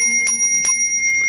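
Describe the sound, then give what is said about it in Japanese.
A Buddhist rin bowl bell is struck a few times in quick succession, each strike adding to a bright, high, steady ring that sustains throughout with no voices. “おりんがもうね、楽器のように和尚様の歌声をさらに魅力的にしてくれてますけど、 トントントンがね、 今トントントンでしたね。”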